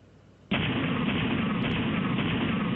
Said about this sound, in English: It's a cannon, or whatever you want to call it, It's a series of explosions pushing this stuff out. And the fact that the explosions are going on at between 400 to 500 times per second is picking out a pure note.